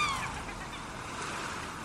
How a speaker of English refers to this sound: in between the squawking of the low-flying seagulls floating effortlessly in and out of the thinning fog bank.